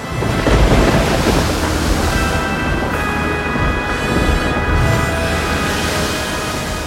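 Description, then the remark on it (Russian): A loud, continuous storm roar with deep rumbling thunder and heavy crashing waves, a dense wall of low-end noise that swells and surges throughout, with no voices. “Огромный корабль страшно качало, а ветер так и мчал его по бушующим волнам.”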